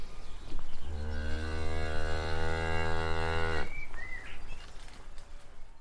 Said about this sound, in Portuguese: Quem sabe, mugiu a vaca.